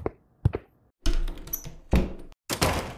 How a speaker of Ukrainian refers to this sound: Ку-2 заходить до квартири. Гупне дверима, щоб ритм відчувався.